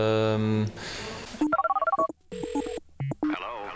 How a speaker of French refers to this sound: Quand le téléphone va, je le prends, je dis qui est là, qui est à l'appareil.